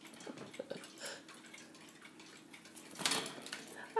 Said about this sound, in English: Throwing water everywhere.